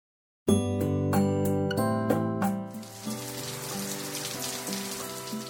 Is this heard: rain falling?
yes